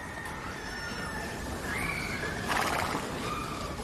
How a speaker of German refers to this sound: Hörst die Hufe der Pferde an den vorbeikommenden Kutschen.